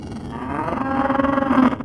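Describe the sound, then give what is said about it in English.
A deep, drawn-out animal bellow, cow-like but rougher, swelling in loudness over about two seconds, heard outdoors in thick fog, with no voices around it. “It's just a cow or something. Chill out. That didn't sound like a cow.”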